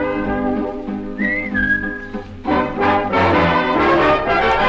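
Bright, melodic whistling carries a tune over a full band accompaniment, with a sustained high whistled note early on and the music swelling louder toward the end.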